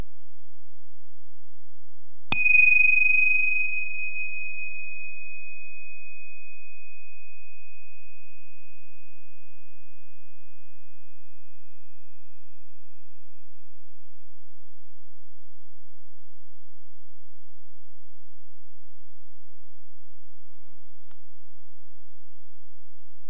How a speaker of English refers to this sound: And listen to the sound of the gong. See if you can follow this sound all the way until you know it's silent.